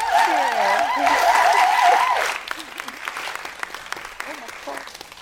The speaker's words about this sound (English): So thank you so much. I think we want to give them another round of applause.